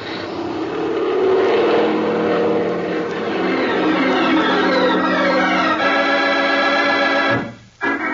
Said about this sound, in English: Without the wheels touching the ground, we were climbing into the sky again and back toward the San Mateo airport.